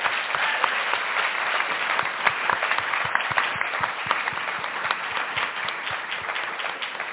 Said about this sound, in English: Can you please join me in giving them another round of applause?